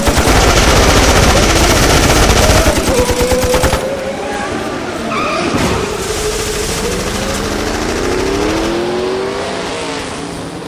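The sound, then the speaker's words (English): A loud, rapid stream of machine gun fire rattles for several seconds, then gives way to a droning engine roar whose pitch rises and falls. “Machine guns. God knows how many rounds they have access to”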